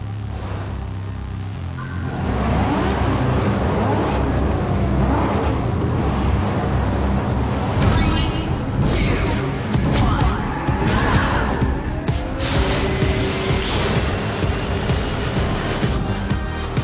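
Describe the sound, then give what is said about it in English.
A racing car engine in a video game, racing at Shanghai, revs and roars continuously for about fifteen seconds, its pitch climbing and dropping through repeated gear shifts, loud after a quieter opening. “And here I'll be able to select the type of car I want to race with.”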